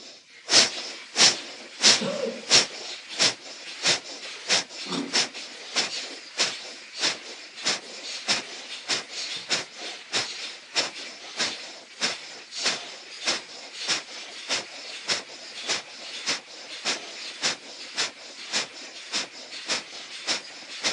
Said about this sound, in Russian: Давайте попробуем дыхание Капалабхати.